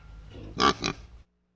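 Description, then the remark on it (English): A pig gives two quick, loud oinking grunts, the first longer than the second, over a low background hum that cuts off abruptly. “Jim with his pig.”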